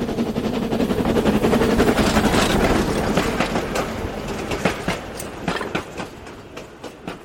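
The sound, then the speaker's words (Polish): A large passenger train in Peppa Pig, driven by Miss Rabbit and carrying adults to work, rumbles along the tracks, a dense steady roar at first that thins into a rhythmic run of sharp wheel clacks as it passes, with no voices. “Panna Królik prowadzi duży pociąg, który wiezie dorosłych do pracy.”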